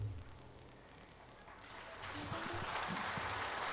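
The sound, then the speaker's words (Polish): A concert audience's applause for the musicians swells from a soft patter into a fuller, steady wash of clapping, with faint murmuring voices underneath at the start. “To dla nich brawa, dla nich.”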